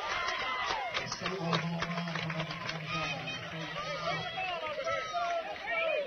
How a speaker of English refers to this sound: Well, he put some energy into the Cardinal fans, who now stand and applaud. A jack for Caden Spicer. Gets this Cardinal team fired up.